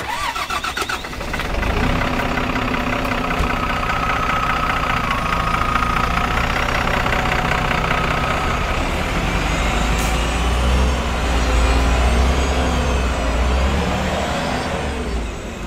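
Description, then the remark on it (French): A large bus engine starts up and runs steadily with a loud rumble and whining drone, with a brief air-brake hiss partway through; no one speaks. “Allez, je vous emmène à l'IME. Tout le monde dans le bus.”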